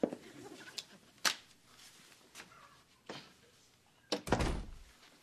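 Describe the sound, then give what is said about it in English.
A door opens with a few sharp latch clicks and creaks, then swings shut with a heavy thud near the end; no one speaks. “Okay, but we should put a rubber band on the door just in case he comes back.”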